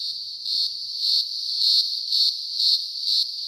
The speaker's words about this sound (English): I don't know why I'm bothering to tell you what they look like, because the main way we relate to cicadas is via their sound. They're not crickets. They're cicadas.